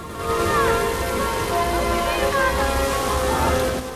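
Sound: heavy rain falling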